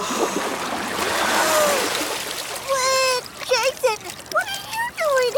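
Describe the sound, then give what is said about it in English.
A burst of splashing, churning water fills the first couple of seconds as someone surfaces from the water, then fades as a voice begins speaking over the quieter water. “Or she meant she was going underwater.”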